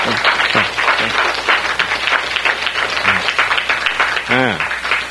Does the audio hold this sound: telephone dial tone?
no